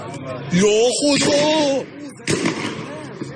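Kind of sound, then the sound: impact, gunshots fired by security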